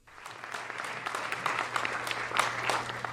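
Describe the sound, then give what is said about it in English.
A packed auditorium audience applauds steadily in approval of a film about the history of the Latino press in the U.S., dense overlapping claps at moderate volume, with a faint low hum underneath and no talking. “A packed auditorium applauded in approval of the film Enduring Legacy of the Latino Press in the U.S.”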